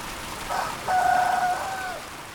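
A single drawn-out rooster-like crow, about a second long, rises over a steady hiss of rain or outdoor background noise, where chickens and geese roam free outdoors at the foot of the Mooskopf. No one speaks.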